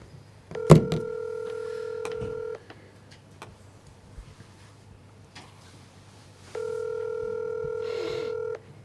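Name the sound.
telephone keypad dialing tones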